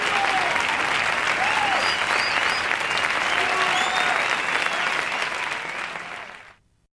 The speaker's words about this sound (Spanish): un aplauso.